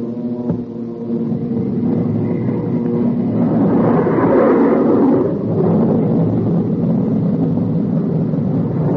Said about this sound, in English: When the B-29 hit 225 miles per hour, Captain Mayo and the B-29 pilot had a short conversation. Then Captain Mayo switched on our jet engine.